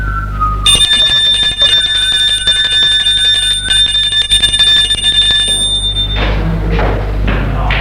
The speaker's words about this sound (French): Une sonnerie retentit.